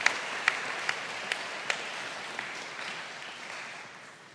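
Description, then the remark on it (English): A crowd applauds, a dense wash of scattered clapping with a few sharper individual claps standing out at the start, fading gradually toward the end. No one speaks. “Yes, you can clap and give him a little bit of a hand.”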